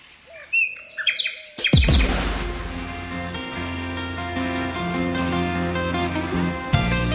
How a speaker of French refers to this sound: Allez, encore un peu de chant d'oiseau et Pierre Richard. Le rossignol chante.